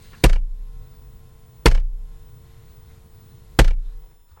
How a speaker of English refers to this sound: Talk Radio are unable to bring you vegetable sound effects, as vegetables, as a rule, do not make sounds. In the spirit of light entertainment, here is a pak choi being banged on the desk.